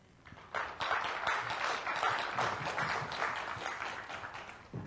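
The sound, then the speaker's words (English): Audience applause for a presenter at a conference swells after a quiet start and holds steady as a dense, crackling wash of many hands clapping, with no one speaking over it. “And let's have more applause for Simon.”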